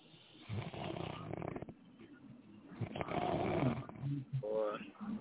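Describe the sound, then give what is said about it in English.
A person snores online in repeated rough, rasping breaths, heard through a muffled, tinny line; a voice seems to talk over parts of it. “I can't believe that somebody's actually snoring online right now.”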